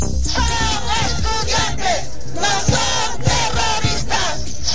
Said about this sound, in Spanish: Así gritaban los manifestantes en Lima, Perú, este sábado para rechazar que la policía ingresara a la fuerza en la Universidad Nacional Mayor de San Marcos, la más importante del país, para desalojar a cientos de manifestantes provenientes del sur